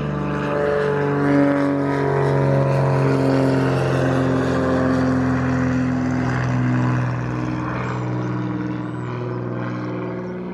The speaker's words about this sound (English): So, here's a plane going over, taking off from Alderney Airport. Alderney International Airport.